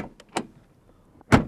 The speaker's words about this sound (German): Aber auch mit so einem Flitzer kann man Musik machen. Aber wie? Da gibt es zum Beispiel eine Hupe. Und es gibt eine Autotür.